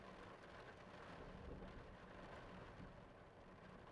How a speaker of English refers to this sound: Another strike of lightning. This one's sounding closer and scarier. No! That had to be right outside.